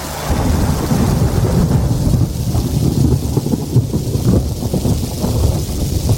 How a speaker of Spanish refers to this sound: Ah, y no olvides llevarte el chubasquero. Porque llover, lo que se dice llover, va a llover.